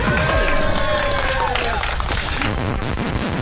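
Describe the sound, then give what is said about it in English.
A crowd at the World Cyber Games U.S. Championships in New York City roars and cheers steadily for a few seconds, with raised voices shouting over dense, loud noise that sounds like scattered clapping. “You may cheer now.”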